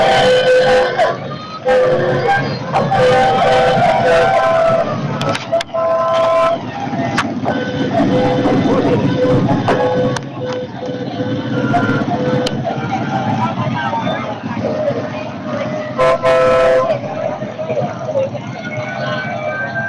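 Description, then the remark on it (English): Several vehicle horns honk and blare in overlapping, sustained tones as little cars arrive, over a steady rumble of traffic, with a busy crowd-like murmur and possible voices in the background. “What's those horns? I think they're coming. I think the cars are coming.”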